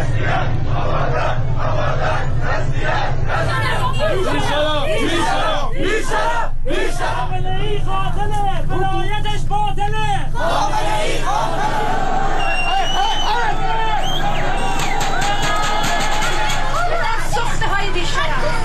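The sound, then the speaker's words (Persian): Street protesters clash with special guard forces in Abadan, Iran, in a loud, chaotic scene: a dense crowd shouts and yells over steady low rumbling, with overlapping cries rising and falling throughout. “ویدیوها و تصاویر منتشر شده در آبادان از درگیری میان مردم و نیروهای گارد ویژه حکایت داشت”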